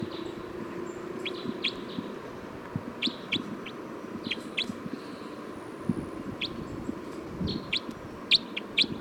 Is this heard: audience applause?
no